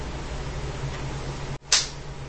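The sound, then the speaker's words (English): A single sharp hand clap cuts in after a brief dip in the sound, standing out against a steady low hum and hiss. No one speaks. “What are you applauding for?”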